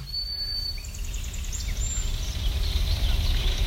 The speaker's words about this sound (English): Oh, and there's a kingfisher. That chattering is a kingfisher coming by. Yeah, looking for some fish to plunge down and grab.